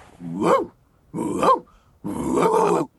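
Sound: dog growling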